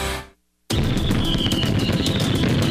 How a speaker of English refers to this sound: Bad Jack's fireworks, from firecrackers and Roman candles all the way up to the big ones you see exploding high in the sky. You can light them off legally over the 4th at Shores, Nevada.